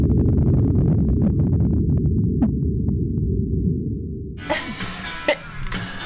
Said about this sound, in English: And this is a pattern that we think we can attribute to two fin whales that are swimming together, calling back and forth. And right about now, you're going to hear this.